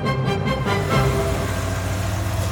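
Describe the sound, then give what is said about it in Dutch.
An old Volkswagen bus, being driven around the Netherlands, runs its engine steadily, a loud, continuous rumbling drone with a rough mechanical rattle and no voices over it. “Radio 4 rijdt deze week met een oude Volkswagenbus door heel Nederland om zoveel mogelijk stemmen”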